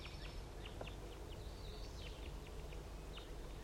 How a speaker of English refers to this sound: The crossbills are in the trees around the net site and they're just chittering, and I believe one is going down right now.